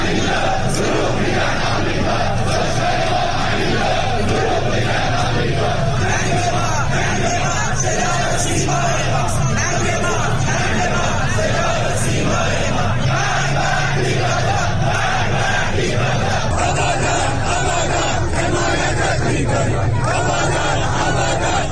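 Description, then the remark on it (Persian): A large crowd of protesters chants slogans in unison in the street on a Friday night in Iran, in protests after the deadly collapse of the Metropol building in Abadan, many voices shouting together in a steady, rhythmic roar that stays loud and dense throughout, with occasional louder yells rising above the mass. “ویدیوهای به اشتراک گذاشته شده در اینترنت اجتماعات انبوهی از تظاهرکنندگان را جمعه شب در شماری از شهرهای ایران از جمله در آبادان در نزدیکی ویرانی ساختمان متروپول و در سطح خیابان در حال شعار دادن نشان می‌دهند.”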